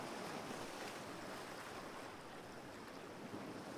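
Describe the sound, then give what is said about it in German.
Ocean waves breaking on a shore make a steady, full roar of surf with a constant hiss and wash throughout, fairly loud, with no voices. “Hier enden deine stolzen Wellen.”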